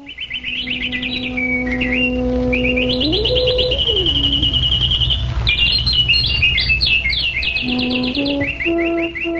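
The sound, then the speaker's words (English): Dense, continuous chirping from flocks of birds moving about flowering trees by the lakes of the Vrindavan forest, bright rapid calls overlapping and bubbling for the whole stretch, with a steady low droning tone that rises and falls underneath. No voices. “The lakes, rivers, and hills of Vrindavan resounded with the sounds of maddened bees and flocks of birds moving about the flowering trees.”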